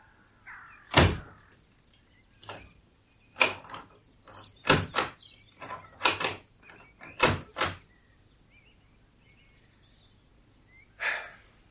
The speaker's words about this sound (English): How did the cellar door come open? I couldn't have bolted it properly last night.